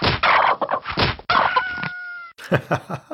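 Chickens cluck in quick, busy bursts, then a rooster lets out a loud, drawn-out crow before the clucking picks up again.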